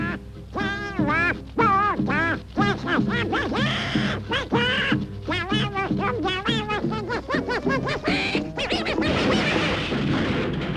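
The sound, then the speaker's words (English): A raspy cartoon voice of Donald Duck quacks and sputters in rapid, jabbering bursts as he is slow to pick up a fast game called Caxangá. The sound is loud, with a noisier, busier stretch building near the end. “The duck's a little slow at picking it up.”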